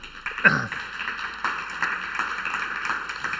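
A church audience applauds with steady, dense clapping that carries on throughout, moderately loud, with a brief louder burst near the start.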